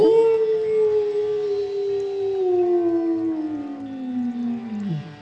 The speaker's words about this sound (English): The wolf threw his head back and howled a long song of hunger and hunting that accompanied Richard in his flight around a bend in the path and out of sight.